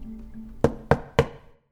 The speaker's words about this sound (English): I go to the back of the apartment where I see the door with the ducky on it. And at 3:01 precisely, a knock.